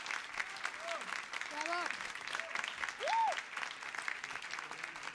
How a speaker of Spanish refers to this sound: Y este es el jarabe de amor ranchero. Un aplauso a los bailadores y a la maestra de danza,